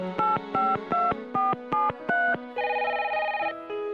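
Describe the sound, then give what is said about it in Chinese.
Half a dozen quick, evenly spaced keypad beeps ring out clearly as a phone number is punched in for a long-distance call, followed by a longer steady tone, with no voices. “于是就给妈妈打了一个长途电话。”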